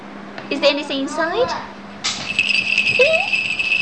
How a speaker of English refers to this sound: Oh, I can hear the ring. The ring sound. Is a bell? Is this a bell? Jingle bell. Oh, jingle bell.